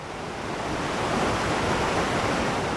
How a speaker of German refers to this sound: Mit unbändiger Kraft schießt das Wasser durch hunderte von Tälern hinunter zum Schwarzen Meer. Temel vasıflarının yanında şu anda ben derenin sesini duyuyorum, dinleniyorum.